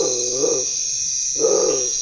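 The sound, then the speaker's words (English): Two deep, low, drawn-out calls from a bare-throated tiger heron at nightfall, each lasting about half a second with a short pause between, over a steady high hum of night insects. “When I was making this recording of the bare-throated tiger heron, it was nightfall.”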